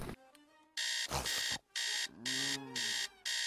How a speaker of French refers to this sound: Qui est-ce qui a branché ce réveil de merde ?